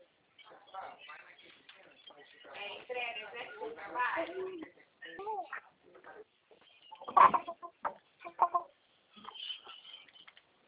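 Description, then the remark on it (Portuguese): Chicken clucking in short, irregular bursts, moderately loud, with a sharper squawk partway through and a few quieter clucks toward the end, mixed with human voices. “Você pediu a galinha.”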